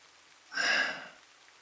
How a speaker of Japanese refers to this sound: 見てわからない、雨宿りしてんの。